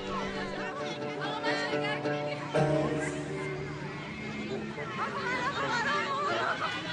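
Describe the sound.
A noisy crowd of children chattering and laughing all at once at Shahid Alaeddini Elementary School, a dense, continuous babble of young voices filling a room, with occasional louder shouts and giggles rising above the din.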